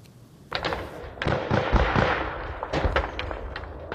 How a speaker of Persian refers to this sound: صدای تیر و توپ در سرحد تاجیکستان و قرغیزستان دوباره بلند شد.